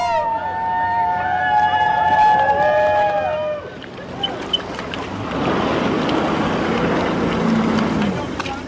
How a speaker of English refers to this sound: The three cast members and two on the camera crew pulled up to the dock on four Sea-Doo jet skis after 1,400 miles in 5 days from Seattle to Petersburg.